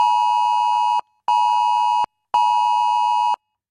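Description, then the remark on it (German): A loud, harsh electronic warning tone sounds in three long bursts with short silent gaps between them: a smartphone emergency alert sounding on many phones at 11 a.m. for Germany's nationwide warning day. No voices. “So wird es heute um 11 Uhr wieder bei vielen Handys zu hören sein.”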